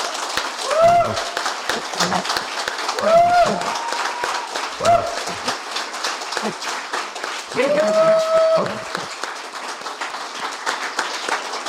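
Steady audience applause, a dense crackle of many hands clapping for the whole stretch, with a few short vocal bursts like cheers or calls rising above it.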